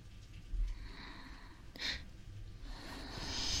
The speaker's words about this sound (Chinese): 打哈欠了，睡吧。